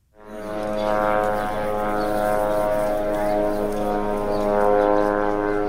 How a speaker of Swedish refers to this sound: Så här låter Sanana, drönaren som israelisk militär övervakar Gazaremsan med. Ljudet skrämmer barnen i Gaza, berättar Rinat Kubertz från sitt kontor i Ramallah på Västbanken.